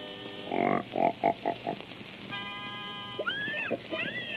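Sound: pig grunting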